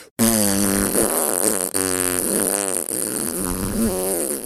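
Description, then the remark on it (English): A long, loud fart that drones on for several seconds with a buzzy, wavering pitch. It breaks only for brief instants before continuing, with no talking. “is literally farting”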